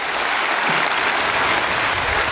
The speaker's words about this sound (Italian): E questo era l'applauso della plenaria.